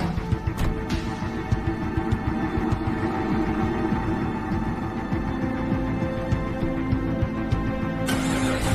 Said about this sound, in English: Trudy and Gretchen duck. The net car slows near Trudy's car, then speeds off.